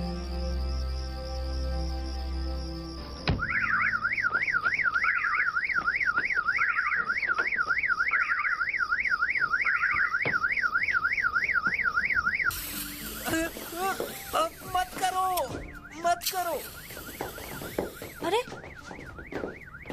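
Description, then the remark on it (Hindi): A car alarm blares with a rapidly warbling, rising-and-falling electronic tone, looping steadily before switching to a choppier, chirping pattern of alternating pitches. “गाड़ी की आवाज है, माफ कीजिएगा।”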